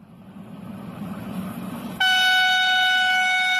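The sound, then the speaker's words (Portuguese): A train rumbles along the tracks with a low, steady roar, then a loud, sustained horn blast cuts in and holds to the end, dominant over the rolling noise, on the reopened Covilhã–Guarda section of the Beira Baixa line in Portugal. “Ora, uma das grandes reivindicações da população era que o comboio parasse literalmente em todas as estações e apeadeiros, e é isso que vai acontecer.”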